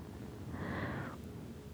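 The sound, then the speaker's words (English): A single airy sniff lasting about half a second, a soft breath drawn in through the nose at a person's neck, against a quiet, hushed background with no talking. “I just want to smell right here in your neck.”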